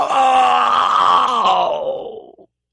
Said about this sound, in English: A hideous shriek went through the hall. The figure of the Lord of Darkness shuddered, paled, and melted away into a great black cloud.